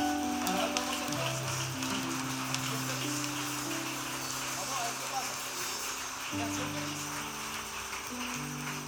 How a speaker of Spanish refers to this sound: Dale nuevamente ese aplauso a Jesús.